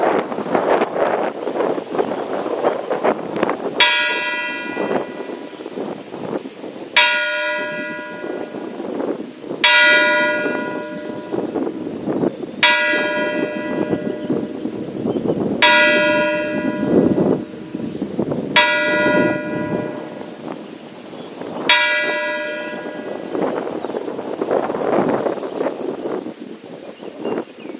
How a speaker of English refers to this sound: Now let us come on and pray our hearts and pray to worship this moment of silence and the tolling of the bell.